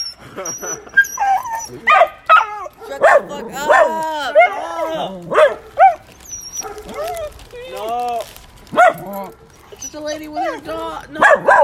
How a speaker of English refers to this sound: Soothing dog noises to relax and study too.